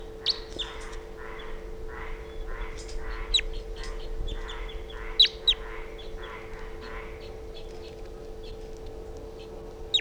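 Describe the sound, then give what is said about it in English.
A wild bird flying over a net in a swooping flight and coming close chitters in a quick, rhythmic run of raspy calls, then gives scattered sharp, high chirps, all over a steady low electrical-sounding hum. “The wild bird just flew over the net and came close, chittering on a swooping flight.”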